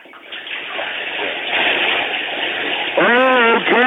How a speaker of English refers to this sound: I know, but the hot water on my back, it feels so soothing. Just give me a shot right there, honey. Yeah. Give me a shot of hot water there.